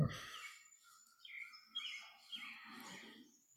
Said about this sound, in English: And do you hear the birds still? Have you forgotten them?